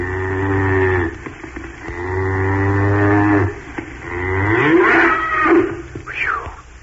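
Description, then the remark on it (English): A cow moos loudly several times in long, drawn-out low calls, the last one rising and wavering in pitch, with no voices present. “Only a cow. Yes, only a cow.”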